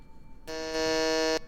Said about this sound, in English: I was going to practice buzzing in. Cause, there, that's my buzz.